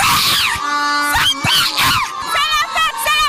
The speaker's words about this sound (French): À la 81e minute du jeu, Sébastien Haller inscrit le deuxième but des éléphants de Côte d'Ivoire. Les supporters sont euphoriques.